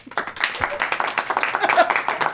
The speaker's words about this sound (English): Okay, wait. They got to clap a little bit.